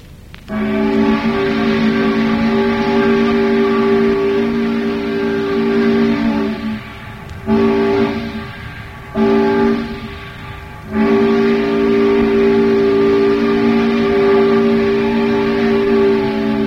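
A steam whistle once used on the towboat Mildred on the Tennessee River, blown the way it sounded on the Mildred, gives a long, steady, chord-like tone rich in harmonics, broken by two brief pauses into shorter blasts before a final sustained blow. No voices.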